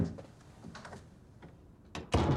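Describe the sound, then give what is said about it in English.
A door shuts with a firm, solid thud near the end, preceded by a brief click and soft shuffling movement in otherwise quiet surroundings. “Close the door.”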